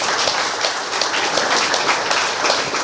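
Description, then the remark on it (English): A crowd applauds steadily, dense overlapping claps forming a bright, continuous wash of sound that holds at a fairly loud level for a few seconds. “Yeah, clap it up for that.”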